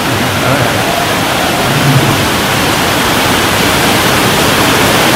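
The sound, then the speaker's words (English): A loud, steady roar of heavy rain, a dense unbroken hiss across the whole stretch with no pauses or voices, constant like a downpour drumming. “It's raining heavily. It's a heavy rain.”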